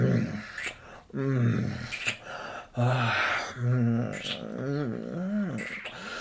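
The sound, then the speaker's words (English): A person growls in a series of about five low, throaty bursts, each rising and falling, with breathy pauses between them. “You want me to growl on your pussy?”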